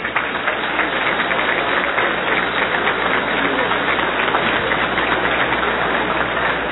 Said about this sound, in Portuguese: Uma salva de palmas para Deus.